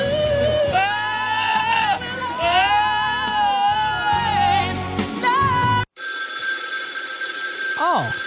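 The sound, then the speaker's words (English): A goat bleats loudly and repeatedly for several seconds, then an abrupt cut brings in a steady electronic telephone ring with a bright, unwavering tone. “The goat was interrupted by a phone call.”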